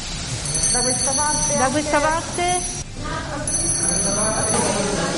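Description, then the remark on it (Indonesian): A small handbell rung by Italian Prime Minister Giorgia Meloni at the traditional handover ceremony with Mario Draghi in Rome rings brightly and continuously for several seconds, its high metallic tone steady, with a crowd murmuring and voices chattering underneath. “Kedua pemimpin saling tukar pandangan hangat ketika Meloni dengan gembira membunyikan lonceng kecil itu.”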